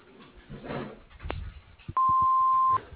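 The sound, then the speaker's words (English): A single loud, steady beep from the Silvestris and Silvestri Construction answering machine, lasting under a second. It sounds after a stretch of low, muffled background noise and soft thumps. “Please leave your name and telephone number and a brief message after you hear the beep.”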